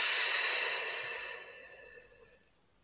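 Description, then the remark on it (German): A long, airy exhale, strongest at the start and slowly fading over a couple of seconds, with a faint thin whistle near the end and no talking; deep breathing in and out during an arm stretch with the hands behind the head. “Und atmen ein und aus.”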